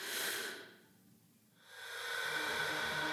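A breathy, airy rush of noise swells, fades to near silence for a moment, then returns and holds steady: a slow exhale-and-inhale breathing sound set in an electronic music track.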